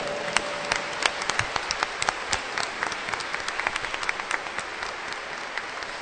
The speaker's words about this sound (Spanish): Más fuerte el aplauso.